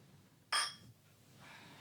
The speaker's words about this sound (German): Stößchen. Prost.